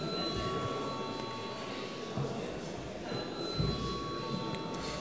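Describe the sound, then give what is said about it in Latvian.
A continuous electric bell rings steadily for several seconds in a parliament chamber, rung before deputies vote on a bill in its third and final reading; its bright sustained tone sits over a dense wash of background murmur and rustling. “Paldies, lūdzu zvanu.”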